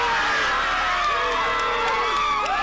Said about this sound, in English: Almost a year after we all watched George Floyd die beneath the knee of police officer Derek Chauvin, a jury in Minneapolis convicted him on all counts. The city and the country erupting in cheers, tears, and applause.